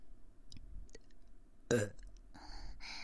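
A short, wet burp sounds right up close to the other ear, followed by soft mouth noises and rustling near the microphone, with no talking.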